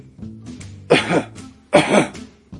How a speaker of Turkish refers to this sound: Şimdi derin bir nefes alın. Öksürün.